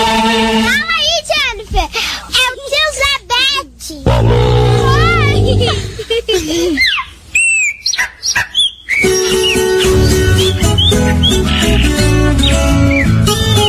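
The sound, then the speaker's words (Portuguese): Bright, warbling birdsong chirps and trills in quick bursts, mixed with the steady strummed and plucked tones of a viola that grows fuller and more continuous toward the end. “Agora é, com essa ilustração, canto dos pássaros, aí completa mais ainda.”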